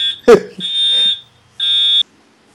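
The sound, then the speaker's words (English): A fire alarm for a fire drill blares in loud, steady high-pitched tones, sounding in two long bursts with a short gap between, while a voice briefly exclaims over the start. “What is that? That's fire drill.”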